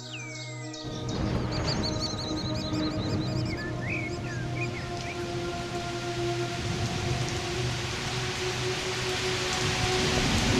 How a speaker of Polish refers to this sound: Wydawało się, że góra Tomach wznosi się tuż obok niej, ale między nimi leżały niezgłębione przepaście, a strumienie deszczu zupełnie zakrywały widok.